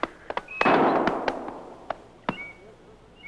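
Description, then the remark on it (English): Three sharp gunshots fired as a signal crack out at irregular intervals, one louder blast trailing off in a long rumbling echo, with faint high whistling chirps between the shots and no talking. “No, he said he'd shoot 3 shots if he found Brown first.”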